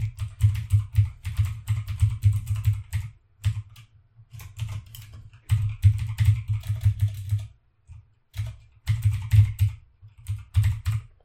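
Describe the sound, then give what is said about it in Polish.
Rapid clicking of keys on a computer keyboard, typed in several bursts with short pauses between them, fairly loud, with no voices, as a prepared email address is typed into a new message in the Thunderbird email program. “Ja wpiszę przygotowany wcześniej adres mailowy.”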